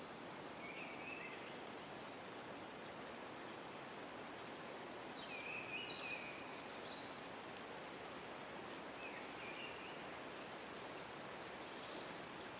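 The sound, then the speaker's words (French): Water flows gently in a steady, continuous wash in a forest, with a few short bird chirps high above it. No voices are heard. “Le son de l'eau qui coule doucement.”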